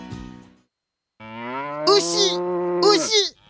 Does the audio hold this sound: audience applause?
no